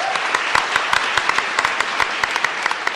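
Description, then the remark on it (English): An audience claps steadily for a discussion panel, a dense crowd of hand claps with sharp individual slaps standing out, sustained and fairly loud for the whole stretch with no talking. “By a round of applause, please give our panel just all your love you can give.”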